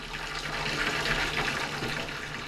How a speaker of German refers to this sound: Sie ging zur Wanne und drehte den Hahn auf. Das Wasser rauschte dampfend in die Wanne.